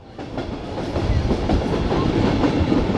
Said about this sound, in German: So, wir haben es jetzt bald geschafft. Wir stehen jetzt hier im Zug kurz vor Rom und warten darauf, dass wir einfahren können.